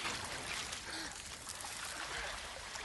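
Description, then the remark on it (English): Water sloshes and swirls steadily, a continuous splashing churn as two people push slowly through chest-deep floodwater, with no pauses or distinct individual splashes. “As they wade on through chest-deep water and past the sodden carcass of a dead dog, as the water shallows,”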